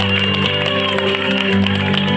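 An audience claps and cheers in a dense, steady wash as musicians are introduced, with sustained musical tones playing underneath throughout the short burst.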